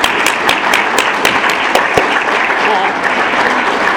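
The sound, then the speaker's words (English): A large audience claps steadily and loudly throughout, a dense wash of overlapping handclaps with a few sharper individual claps standing out, applauding the event's volunteers. “And so all the volunteers, please stand up and let us give you a round of applause.”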